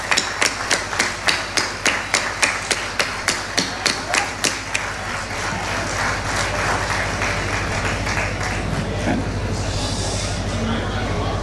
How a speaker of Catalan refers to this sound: I ara que estem tots, entre tots us ho podem fer un gran aplaudiment. Vinga, va, un fort aplaudiment, que s'ho mereixen.